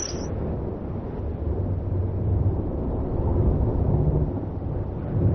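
Deep, continuous thunder rumbles through a storm, a heavy low roar that swells slightly and stays steady for several seconds, with no voices.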